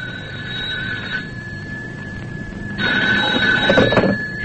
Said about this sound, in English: The phone, I'd better go out and answer it.